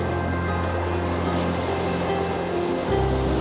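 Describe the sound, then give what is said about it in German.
A loud, continuous roar of rough storm surf, heavy waves crashing with great force against the rocks of the shore, throwing up foam and spray, with a steady low rumbling undertone and no voices. “Schaum und Gischt spritzen in die Höhe und ein ohrenbetäubendes Brausen übertönt immer wieder das Sausen des Sturms.”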